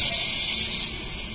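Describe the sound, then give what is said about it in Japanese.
Bear cicadas (kumazemi) buzz their 'washi-washi' call in a dense, loud, unbroken rasping drone that fills the whole moment, steady with no pauses. “このワシワシ言うてるクマゼミとかどんだけ腹鳴らしとんねん感じですね。”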